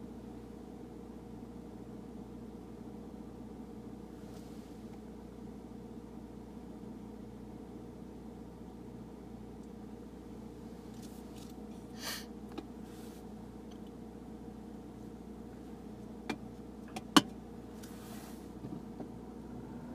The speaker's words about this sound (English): 1, 2, 3, 4 buses, and this last bus is towing a trailer.